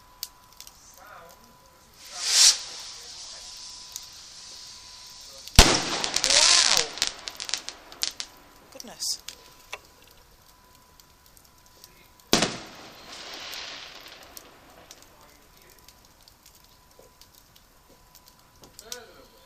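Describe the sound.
Fireworks go off in three separate bursts, their colours appearing before the sound, each a sharp bang trailing into a crackling, hissing fizz, with quiet pauses between them and faint murmuring voices in the background.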